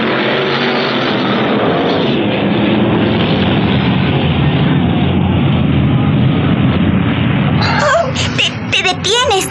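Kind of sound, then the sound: vehicle, motorcycle engine running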